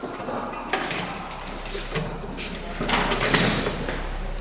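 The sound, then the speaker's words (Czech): Metallic clanks and scrapes as a guard unhooks a huge bunch of keys from his belt and unlocks and pushes open a prison cell door in a high-security unit, with rattling keys and a sliding grind, fairly loud, no voices. “Zřejmě je s tím, co vidí, spokojený, protože si odepíná obří svazek klíčů z opasku a dveře cely odemyká.”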